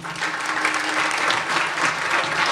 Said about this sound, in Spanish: Otras están aquí y queremos homenajearlas y agradecerles por su coraje y su trabajo en abrir espacios de resistencia, formación y derechos. Un aplauso.